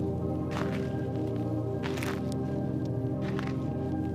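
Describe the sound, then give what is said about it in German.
About three crunching footsteps spaced well apart, like someone stepping over twigs and stones, heard over a steady humming musical drone. “Noch ein paar Schritte über Stock und Stein und ein kleines Baumhäuschen wartet auf uns.”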